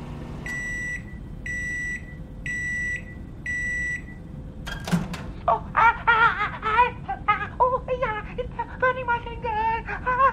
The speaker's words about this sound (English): Excuse me, get that microwave on, darling. Hello, sir, do you want your panini warmed up? Okay, wait there, just put it in the micro.